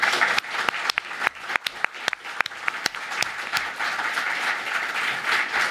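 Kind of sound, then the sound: crowd, applause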